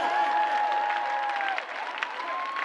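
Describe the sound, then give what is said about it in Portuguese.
A crowd claps steadily in a dense, continuous patter of many hands, with a sustained musical tone held above the applause, dipping briefly before the clapping swells again. “Bate na palma da mão aí, vai.”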